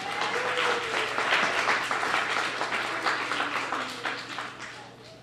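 A crowd applauds steadily for about five seconds as a writer is introduced, a dense wash of many hands clapping at once with a few faint voices mixed in, tapering slightly toward the end.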